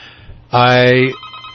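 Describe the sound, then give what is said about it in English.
A loud telephone ring bursts in for about half a second, a bright harmonic electronic tone that cuts off abruptly, with faint background noise around it: an incoming call to a radio call-in show. “My goodness, this is the most phone calls within 4 minutes that I've...”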